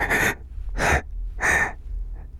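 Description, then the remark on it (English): Three loud, breathy gasps spaced roughly evenly apart, each a harsh rush of air, followed by a faint fourth exhale, with no talking. “I'm just breathing, obviously.”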